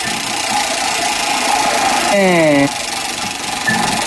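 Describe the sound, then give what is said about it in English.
A reconstructed mummy's voice produced through a 3D-printed vocal tract: one short, buzzy, vowel-like drone lasting about half a second, sliding slightly downward in pitch over a steady hiss. “Believe it or not, that is the sound of a mummy.”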